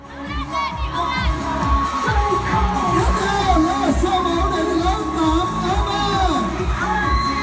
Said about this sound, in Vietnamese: Sau phần văn nghệ chào mừng cùng những màn reo hò cổ vũ của toàn thể học sinh nhà trường, vòng sơ khảo cuộc thi Cùng Đức Việt trở thành trạng nguyên tuổi 13 chính thức bắt đầu.